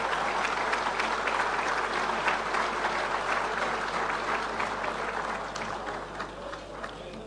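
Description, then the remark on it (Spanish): A crowd at a business chamber luncheon in San Rafael, Mendoza applauds the luncheon's organizers steadily, a dense wash of clapping that holds strong for several seconds before gradually thinning toward the end. “También un aplauso, fue mucho trabajo organizar esto.”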